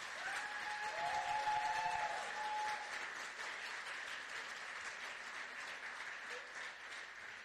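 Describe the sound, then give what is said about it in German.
A crowd at a women's breakfast event claps steadily for several seconds, applauding the team and the breakfast: a dense, continuous patter of many hands. It stays fairly loud throughout, and a faint whistle-like tone rises over it near the start. “Wenn ich gerade noch mal einen kurzen Applaus bekommen könnte für dieses fantastische Team und dieses wundervolle Frühstück.”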